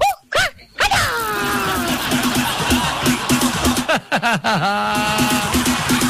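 A dog yips and whines in quick, high-pitched bursts, with short sharp barks mixed among rising and falling whimpers, continuing almost without pause for several seconds.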